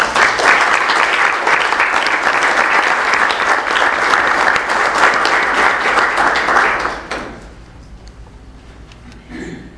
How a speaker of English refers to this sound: So we can have a round of applause for the winners.